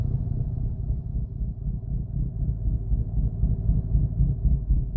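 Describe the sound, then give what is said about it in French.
A steady, low engine rumble drones on without a break, rich in deep harmonics with a regular, hypnotic pulse and fairly constant loudness throughout. “Un premier motif s'esquisse, le moteur.”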